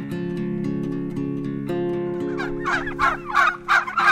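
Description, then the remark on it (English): A flock of about 185 full-grown broad-breasted white turkeys, toms and hens, on a farm in West Greenwich, Rhode Island, gobbles loudly, several rapid, rattling gobbles overlapping in bursts over a steady low murmur of many birds, with no talking. “So this is about 185 turkeys. We've got a mixture of toms and hens, and they're full grown, so they're pretty big birds.”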